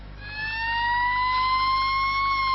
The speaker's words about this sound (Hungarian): Most csak a gyakorlat miatt szól a sziréna. A Bihar-Nagybajomi Tűzoltó Egyesület tagjainak azonban évente több mint 40-szer kell éles helyzetekhez vonulniuk.